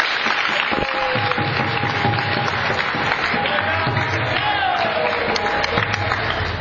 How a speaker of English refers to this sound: Clap, everyone.